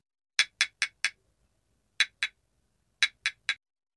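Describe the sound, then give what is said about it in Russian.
A mother hen carefully taps on the biggest egg in a nest in a henhouse: four quick crisp taps, a pause, two more, then a final run of three, each sharp and hollow against silence. “Курица осторожно постучала по яйцу.”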